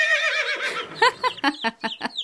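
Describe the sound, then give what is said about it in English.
A horse whinnies with a high, wavering neigh that breaks into several quick, descending snorting pulses, clear, with no talking, at the equestrian complex of Gumbad-e-Kavus in Golestan province, northeastern Iran. “The sound of the horse you just heard spoiled all the surprise I had prepared for you.”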